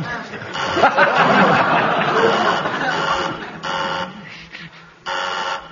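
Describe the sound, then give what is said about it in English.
A quiz buzzer sounds twice in sharp, steady electronic bursts that start and stop abruptly, following a stretch of noisy audience laughter and chatter. “Who buzzed my buzzer?”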